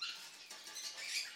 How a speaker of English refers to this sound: Ooh, a mouse.